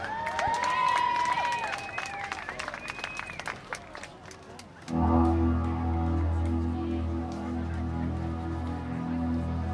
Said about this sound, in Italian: Alors, mesdames et messieurs, je vous laisse en bonne compagnie avec Monsieur …. On l'applaudit!